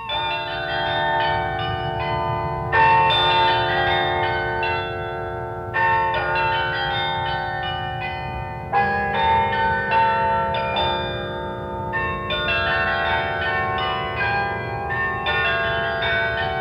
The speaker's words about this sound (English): The All Things Considered theme is realized on a carillon in Kansas. Don Vagley, musician and composer at the Electronic Studios at the University of Wisconsin, is the creator of our theme.